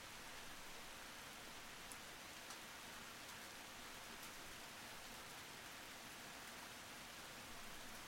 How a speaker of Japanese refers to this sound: 雨強くなってきたね。風も吹いて隙間風が寒いね。